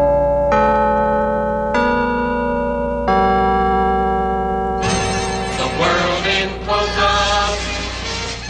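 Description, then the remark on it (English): Carillon bells chime four o'clock as a time signal on WINN radio, Louisville, sounding three slow, resonant strikes that hang and overlap, then bursting into a fuller cascade of chimes ringing together, loud with no voices. “It's 4 o'clock in Windland by the Liberty Bank, Carolyn Bells.”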